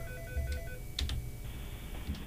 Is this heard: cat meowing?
no